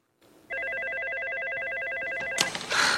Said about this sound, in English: And her desk phone rings again immediately, so she makes the obvious assumption.